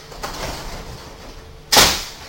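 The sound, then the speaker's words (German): Subway train doors slide shut, a low rumbling whoosh building to one loud, sharp bang as they close, with a brief ringing decay afterward. No one speaks. “Zurückbleiben, bitte.”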